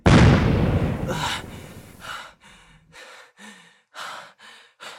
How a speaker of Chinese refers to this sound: 没想到吧，我的青玉靴可以爆炸，玉石在最后救了我一下。